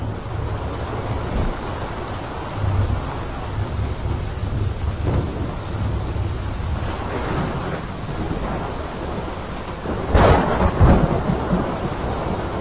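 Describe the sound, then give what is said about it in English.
A thunderstorm with steady rain hissing throughout, low rumbling thunder rolling underneath and a louder crack of thunder near the end. No voices. “Thunderstorm.”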